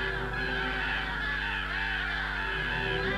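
crows cawing

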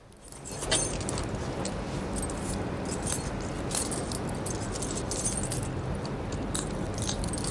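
handcuff keys jangling

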